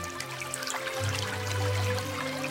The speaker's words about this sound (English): The passages are cut so that the water continually runs slightly downhill. When it reaches the surface, it's divided up to sustain a village that otherwise wouldn't exist.